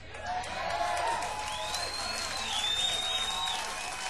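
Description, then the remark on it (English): An audience claps steadily and loudly for the opening band throughout, with a few sharp whistles and cheers rising over the dense, continuous applause. “Join with me and let's give the opening band a big round of applause, ladies and gentlemen.”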